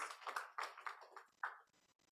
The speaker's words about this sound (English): Clap for the Lord Jesus. Hallelujah. Thank you, Jesus.